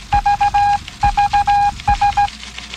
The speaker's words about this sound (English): I was waiting for the beeping sound to stop.